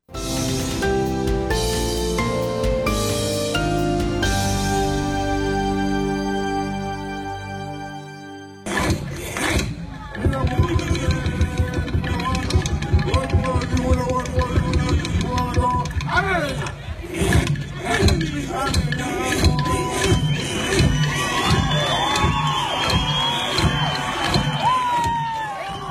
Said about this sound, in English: That's the sound of the Koonunji Whimper dancers wowing crowds at this year's Laura Aboriginal Dance Festival.